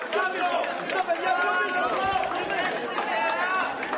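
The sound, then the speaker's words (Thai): A dense crowd of many voices cheers and shouts together, a steady, loud wash of overlapping calls lasting throughout without pause: Greek citizens cheering Prime Minister Alexis Tsipras as he walks into a polling booth on the outskirts of Athens, Greece, on a Sunday to vote in a referendum. “ประชาชนชาวกรีกต่างส่งเสียงเชียร์ให้กำลังใจนายกรัฐมนตรีอเล็กซิสซิปราสที่เดินเข้าคูหาลงคะแนนชานกรุงเอเธนในวันอาทิตย์”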